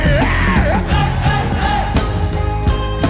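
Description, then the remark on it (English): An audience yells loudly together to scare the devil, a sustained, echoing roar of many voices with rising whoops, over a steady backdrop of music. “Yell it louder to the devil.”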